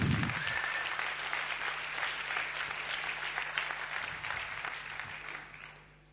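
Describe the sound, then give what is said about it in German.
Sustained audience applause from a crowd, steady clapping for several seconds before tapering off at the end. “Und ja, gebt mal einen Beifall.”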